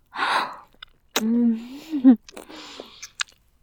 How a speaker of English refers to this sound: Hear me gasp?